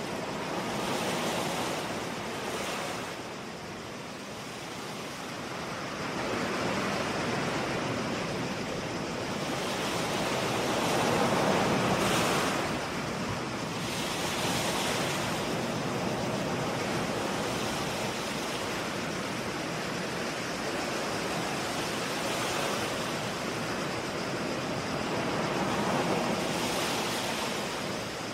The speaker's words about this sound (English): And hear the sound of the shoreline where hermit crabs make their home.